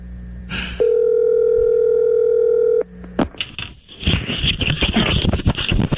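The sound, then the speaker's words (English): A single long ringback tone on a phone line as a morning show calls a phone number for Tiger Woods, a steady mid-pitched hum lasting about two seconds, followed by a click and crackly, rustling line noise as the call connects. “And so we've got a phone number for Tiger Woods, and he, I believe, is going to come on the show with us this morning and talk about the Jenkins article and his feelings for Dan Jenkins.”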